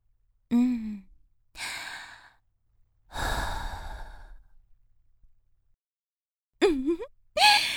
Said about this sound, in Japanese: じゃあ、また情報を教えてくれたご褒美に、今度は甘い吐息を坊やのお顔に吹きつけてあげる。